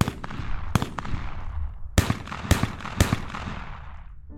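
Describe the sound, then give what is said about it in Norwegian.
Sharp, hard gunshots from a hunting rifle ring out: one crack, a pause, then three more in quick succession, each trailing off in a long outdoor echo, with no voices. “Det hørtes ut for meg som et sånn jaktgevær, for det var jo ganske harde skudd.”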